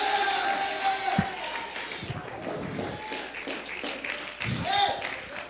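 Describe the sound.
An audience claps and shouts together, a dense, steady wash of applause mixed with raised voices and cheers, with a few louder bursts of shouting rising above the crowd.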